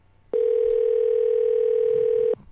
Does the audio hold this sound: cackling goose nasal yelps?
no